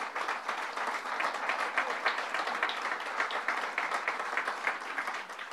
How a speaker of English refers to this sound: And we have Senator Ruth Hassel Thompson, who was one of the early pioneers also. Let's give Ruth a round of applause.